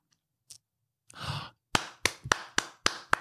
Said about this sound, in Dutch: En ik zie dat je echt klapt. Ik doe altijd dit. Nee, ik klap echt.